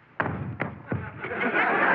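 A body tumbles to the floor: a heavy thud followed by several more dull thumps in quick succession, then a rising wash of rustling, scuffling noise as it settles.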